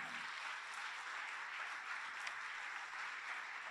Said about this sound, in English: Can we clap for Syed and Gina?